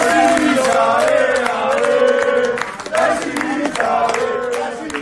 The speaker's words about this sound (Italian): Quindi cori per Sinisa Mihajlovic, dei tifosi del Bologna sotto l'ospedale.